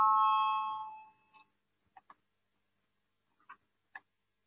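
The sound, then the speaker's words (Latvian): A loud, steady electric parliamentary bell rings for about a second to call a vote on a committee proposal, then cuts off, followed by a few faint, scattered clicks in otherwise quiet surroundings. “Lūdzu, zvanu, balsosim par pirmo sociālo un darba lietu komisijas iesniegto priekšlikumu.”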